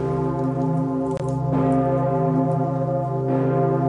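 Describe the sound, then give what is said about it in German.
The Pummerin, the huge old bell in the north tower of St. Stephen's Cathedral, tolls steadily, its low humming resonance sustained and loud, with fresh strikes blooming over the lingering ring about every two seconds, no voices present. “Für alle läutet die Pummerin, so heißt die große alte Glocke im Nordturm des Stephansdoms.”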